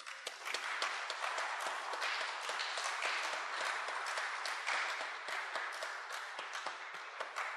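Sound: audience applauding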